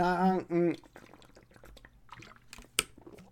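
A short vocal hum, then someone sipping water from a bottle with a green cap in Taiwan: soft wet gulps and small liquid clicks, ending with a sharp swallow or cap-like tap.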